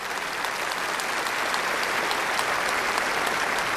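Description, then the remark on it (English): A large audience applauds steadily, a dense, continuous wash of many hands clapping at a fairly loud, even level throughout, with no voices standing out. “Instead of clapping, I want a commitment.”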